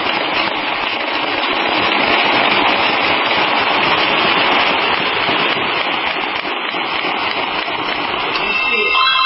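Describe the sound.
A dense, continuous crackle of gunfire and explosions echoes from down a street, rapid pops blurring into a steady roar for the whole stretch, with indistinct voices of police yelling at each other mixed into the din.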